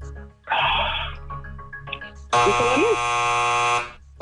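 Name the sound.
quiz game buzzer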